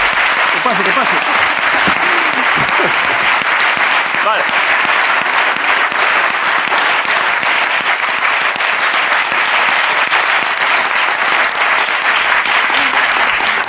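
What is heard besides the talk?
audience applause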